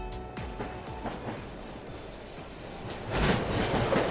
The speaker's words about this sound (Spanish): Sonido de trenes en París, ahí es donde está la noticia.